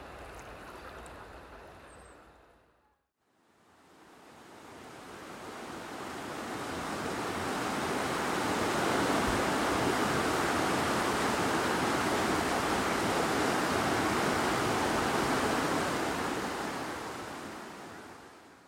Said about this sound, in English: Well, we've crossed over the wooden bridge opposite the Cavendish Pavilion, and the water is flowing fast today after heavy rain over the last few days. So I have a feeling that torrent of gushing water will be a constant companion throughout our